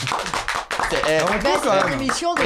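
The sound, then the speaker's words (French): A short burst of hand clapping, a quick run of sharp, even claps at the start that soon gives way to a person talking loudly. “Voilà, on m'applaudit.”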